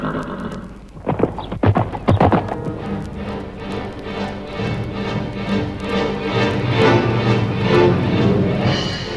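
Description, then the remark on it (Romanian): A horse sets off at speed with a rider, a burst of sharp hoof strikes breaking into a steady galloping clatter that carries on under a whinny, fairly loud with no talking. “Uite, ia calul acesta și pornește.”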